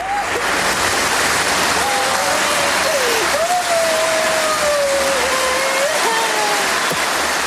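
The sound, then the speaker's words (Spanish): A female athlete's anguished cries of pain at the Paris Olympic Games rise and waver in long drawn-out wails, nearly drowned by loud, continuous crowd applause that roars steadily throughout. “Gritos de dolor entre los aplausos del público, como escuchábamos.”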